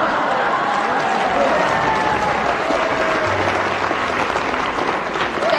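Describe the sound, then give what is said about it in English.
Steady, dense applause from a crowd, a continuous wash of many hands clapping at an even loudness for several seconds, with a faint murmur of voices mixed underneath. “Signals applause. See, I have drunk my fill of the clapping.”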